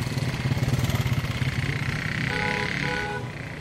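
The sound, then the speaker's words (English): A motorbike taxi (Okada) engine throbs in a steady, rapid pulse as it rides in Calabar, its rumble mixed with road and wind noise, easing slightly toward the end. No one speaks. “Unlike Lagos, Calabar felt safe enough to use the Okada, the motorbike taxis that everyone gets around on.”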